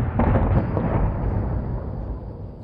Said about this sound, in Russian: В это время на другой стороне бухты послышались взрывы.